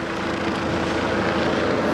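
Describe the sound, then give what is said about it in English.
A helicopter drones steadily overhead in downtown Orlando, near a nightclub where police have sealed off the streets. Its constant rotor noise fills the scene with a low, rhythmic thudding beneath a broad engine roar, with no voices present. “You can hear the helicopter overhead.”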